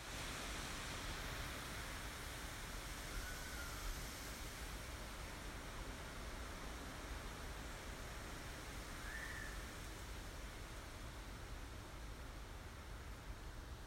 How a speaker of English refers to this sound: Must be the first plane I've heard take off from Leeds Bradford Airport in a while.